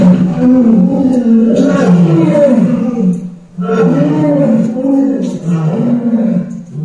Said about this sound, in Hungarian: Ezt képzeljétek, ez tényleg oroszlán hang.